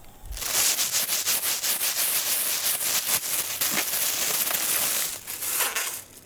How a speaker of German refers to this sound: Genau richtig. Das war das Rascheln einer Plastiktüte.